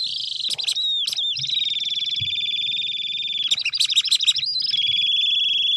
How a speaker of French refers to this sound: Et ça, c'est l'alouette. L'alouette des champs qui est dans le département et qui, à terme, va disparaître à cause de nos activités.